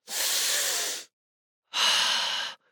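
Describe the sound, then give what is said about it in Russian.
A deep breath drawn in and then let out, two long airy bursts of about a second each with a short pause between, clear with no talking. “Напоминаю вам их еще раз. Дышим глубоко.”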